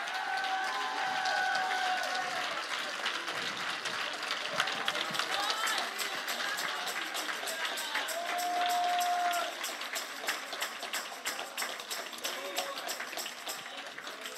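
An audience claps steadily in praise, with dense, crackling applause that holds an even level throughout, while scattered cheers and a couple of brief whistle-like shouts rise above it.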